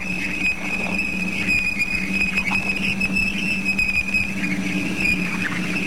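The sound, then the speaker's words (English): A sonified Saturn plasma wave radio recording from Voyager at Saturn's bow shock, a million miles from Saturn: heavier ions from the bow shock make a steady rasping crackle like tearing paper, laced with a constant high-pitched whine and a low droning hum, running evenly throughout without voices. “Heavier ions from the same source make a sound like tearing paper.”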